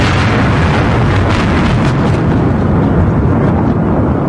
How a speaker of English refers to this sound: Let's start it up here. It's funny that... Why, it's a car bomb.